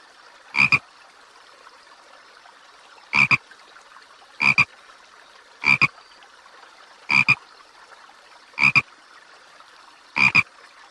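Seven short, raspy frog croaks repeat by a river at fairly regular intervals of about a second and a half, each one clear, with a faint steady background hum between them and no voices.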